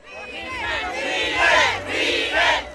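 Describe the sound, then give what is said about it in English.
A crowd of some 10,000 Cubans chants "Fidel" in unison at Raul Castro's speech at the Moncada military barracks in Santiago, Cuba, many voices swelling together in loud rhythmic bursts over a constant roar of babble. “Some 10,000 Cubans chanting Fidel filed into rows of blue plastic chairs for Raul Castro's speech at the Moncada military barracks.”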